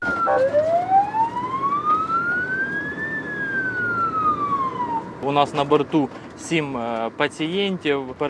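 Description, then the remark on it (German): A Doctors Without Borders ambulance transporting seven patients from Sloviansk to Dnipro sounds its siren: one long, loud wail that slowly rises and falls over rumbling road noise, then a man starts speaking as the siren fades. “von seinem aktuellen Alltag direkt an Bord von einem Krankenwagen.”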